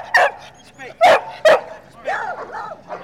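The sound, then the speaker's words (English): A dog barks three times in quick, sharp bursts, loud, then lets out a few softer, whiny yips and whimpers, at a dog competition. “Other categories are best bark, biggest dog, smallest dog, dog that looks the most like Jim.”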